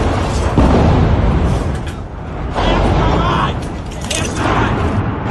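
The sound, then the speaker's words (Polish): A series of loud, booming explosions from intense Russian shelling of Kharkiv, Ukraine, recorded by residents, with deep rumbling roars, several blasts arriving in succession over a continuous heavy low-end din, powerful. “publikowane przez mieszkańców Charkowa nagrania, na których słychać serię eksplozji i widać akcję ratunkową.”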